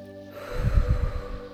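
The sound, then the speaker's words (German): A single deep breath during a guided relaxation exercise, rough and airy through the nose, swells and fades over a soft, steady musical drone. No one speaks. “Wir atmen dreimal tief ein und aus.”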